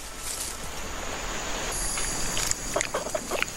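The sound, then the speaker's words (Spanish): An agouti, a rodent of almost 2 kilos, chews on a fig that has fallen to the ground, with soft wet crunching and irregular nibbling clicks that grow more distinct toward the end, over a steady hiss of forest ambience. “Allí, un roedor de casi 2 kilos, el agutí, se lo come.”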